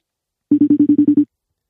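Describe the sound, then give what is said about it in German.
A telephone ringback tone on an outgoing call: a fast burst of about eight short, evenly spaced electronic pulses at a steady mid pitch, loud and with no voices over it. “Jawohl, es klingelt schon.”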